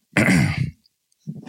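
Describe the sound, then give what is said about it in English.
A loud throat clearing with a rough, gravelly rasp lasting about half a second, followed after a short pause by a brief murmur of voice. “Oh, I'm clearing my throat.”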